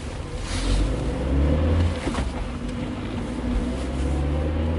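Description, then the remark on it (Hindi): A car engine is started and rumbles loudly and steadily, a deep, continuous drone with a faint rise in intensity as the car drives off toward a roadside dhaba. No voices are heard. “वो निकल के बाहर भागा, गाड़ी स्टार्ट की और सीधे गाड़ी भगाई ढाबे की ओर।”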